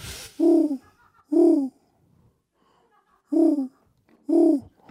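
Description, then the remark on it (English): Four loud, low owl hoots, clear: two in quick succession, a pause of about two seconds, then two more, with near silence between them. “Owl solo. Owl solo. Owl solo!”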